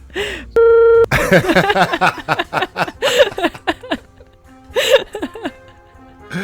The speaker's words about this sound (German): Okay, würdest du mir den erzählen und ich piepst das nachher raus?